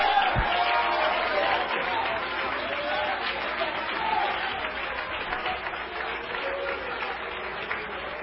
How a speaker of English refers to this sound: I'm going to ask you not to clap unless you're going to shout when you clap. It offends me for folks just to stand and applaud.